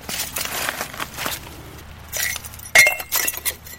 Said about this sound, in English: go through the shattered pieces of artifacts.